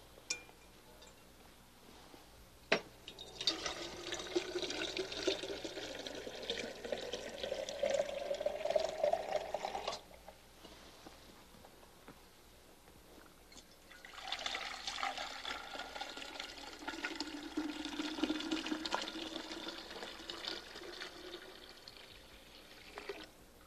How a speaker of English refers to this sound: Now I'm going to fill this big one with cold water.